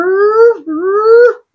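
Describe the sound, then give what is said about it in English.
A voice imitates a sports car's ZF gearbox whine: two loud, sustained, rising whining tones, each sweeping slowly upward in pitch before cutting off, with a brief gap between them. “All you could really hear was the gearbox. That ZF gearbox, you hear that?”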